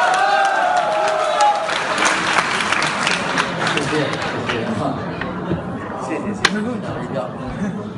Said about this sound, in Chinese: 接下来请您欣赏相声《八大吉祥》，表演者张鹤伦、郎鹤炎，掌声有请。